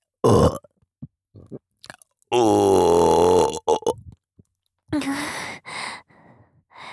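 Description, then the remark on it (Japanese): A long, loud, rumbling burp lasting over a second, surrounded by short breathy sighs and brief vocal sounds before and after. “シコシコゲップでもーっと気持ちよくなりましょうね”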